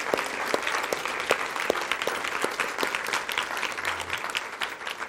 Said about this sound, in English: Thank you very much again. One last time, let's get a round of applause for the drama. It was very good.